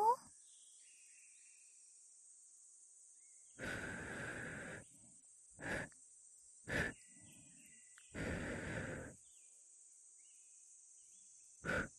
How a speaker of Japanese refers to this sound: 最後にお待ちかねのお耳フーフーだよ。気圧の影響で敏感になってる君の粘膜、私の吐息でほわーって震わせちゃうね。それ、いきますぞ。